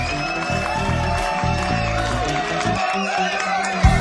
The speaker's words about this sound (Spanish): Los aplausos bien fuerte.